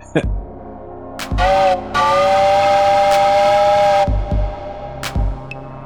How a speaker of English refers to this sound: Can I give a whistle to get Krizblick back?